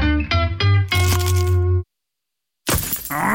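Stone chip striking a car windscreen: after a short tonal musical sting and a moment of silence, one sharp, loud crack of glass hits, with a brief crunchy ring.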